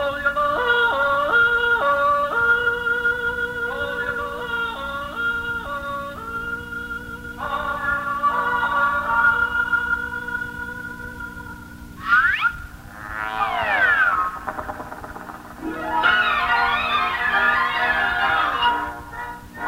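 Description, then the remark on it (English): Yodeling of Swiss mountain climbers in the Alps, a voice leaping between low chest notes and high falsetto tones in a lively melody over a steady sustained accompaniment, ending in rapid warbling trills and ornaments. “When you climb our high mountains called the Alps, you'll hear the Swiss mountain climbers yodeling like this.”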